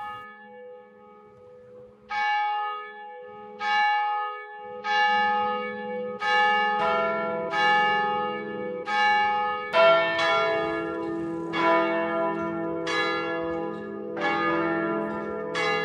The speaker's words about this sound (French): Alors dans ce Liberté Cathédrale, on entend aussi des cloches.